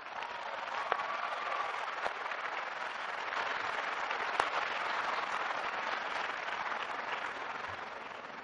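Steady crowd applause fills the whole stretch, a dense, even patter of many hands clapping at a moderate level, with a few sharper claps popping out now and then.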